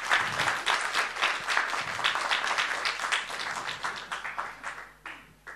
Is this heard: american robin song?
no